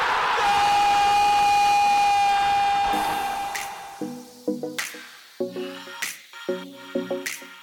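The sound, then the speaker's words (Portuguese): A stadium crowd applauds the Criciúma team and roars loudly at a goal in a dense wash of cheering with a steady whistle-like tone on top, then fades into rhythmic, punchy bursts of chanting or horns. “Inteiro estádio aplaudindo o time do Criciúma.”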